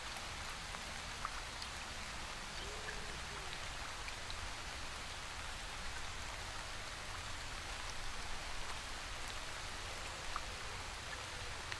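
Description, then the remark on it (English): A waterfall pours steadily into a pool, a constant hiss of splashing water with fine droplet patter and a low rumbling undertone, unchanging throughout, with no voices. “A light breeze prevails from the velocity of the waterfall striking the surface of the pool.”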